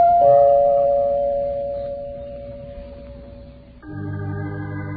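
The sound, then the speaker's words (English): A two-tone doorbell chime rings out clearly in the Tripod household: a first bright note lingers and slowly fades, then a lower second note sounds, with no one talking. “And so, as Howard, Pop, Kathy, and Charlie discuss Uncle Jonathan, the doorbell rings in the Tripod household.”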